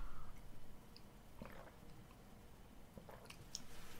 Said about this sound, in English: Let me just have a sip of water.